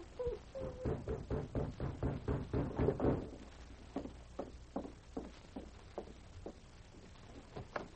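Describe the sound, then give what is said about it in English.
Heavy footsteps approaching a cabin thud in a steady rhythm, brisk and loud at first, then slowing into fainter, evenly spaced steps with a low rumble underneath and no talking. “And he rose as he heard heavy footsteps approaching the cabin.”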